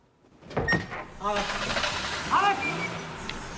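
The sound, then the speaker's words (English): A woman climbs back into a car: rustling and shifting against the seat, a creak or two, and the low clunk of the car body settling, with brief vocal sounds mixed in. “She climbs back in the car.”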